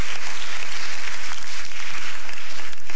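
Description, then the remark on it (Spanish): An audience at a Spanish-language church service claps for the God of glory, a dense, even wash of many hands with a bright, crackling texture that holds at a loud level throughout, without voices or music. “Dele un aplauso al Dios de la gloria.”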